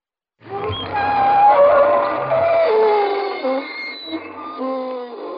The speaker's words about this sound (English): Good evening, friends. This is your host again to welcome you through the creaking door into the inner sanctum.